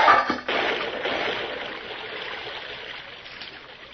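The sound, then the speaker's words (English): Water is turned into a well in a Lone Ranger radio story, opening with a brief splashy burst and then settling into a steady, fairly loud gushing flow that eases slightly toward the end. No voices are heard. “It's a shame for a man to drown with a mask on. Turn the water into the well, Mr.”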